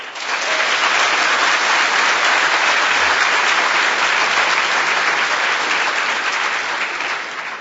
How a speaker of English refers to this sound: Round of applause for giving him a t-shirt.